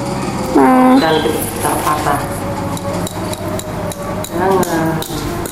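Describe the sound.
A hammer knocks repeatedly in sharp, irregular taps, while voices talk and call out over the pounding; something is being knocked in to make a house.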